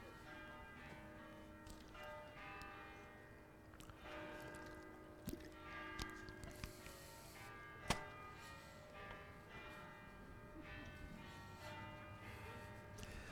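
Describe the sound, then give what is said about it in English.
Church bells peal continuously with layered, overlapping ringing tones, fairly loud and steady across the whole stretch, with a few sharper clangs standing out and faint background noise beneath. “I'm going to wait for the bells to finish ringing so I don't have to yell over it.”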